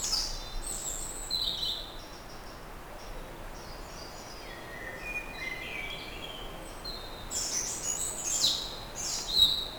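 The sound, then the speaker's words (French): Many birds chirp and call from all around in a densely wooded mixed forest over a steady, soft ambient hiss, some songs brighter than others, overlapping continuously throughout. “À 360 degrés des oiseaux.”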